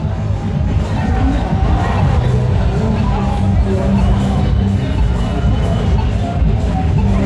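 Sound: crowd cheering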